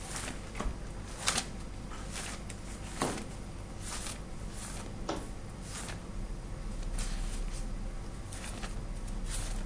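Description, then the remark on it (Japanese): Paper pages of a Bible being flipped and turned to the Letter to the Ephesians, with several soft, crisp rustles and flicks spaced a second or two apart over a steady low background hum, with no talking. “ごめんなさい、手紙ってエペソの手紙ですね、エペソの手紙のですね、このちょっと開いてみましょうか。”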